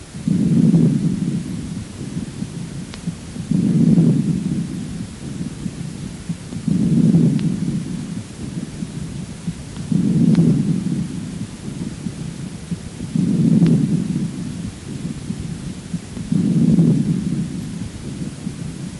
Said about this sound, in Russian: Такое дыхание очень часто выслушивается у детей и носит название пуэрильного. Прослушайте пуэрильное дыхание, зарегистрированное у ребенка 4 лет. Сначала над поверхностью правого легкого. Затем над поверхностью левого легкого.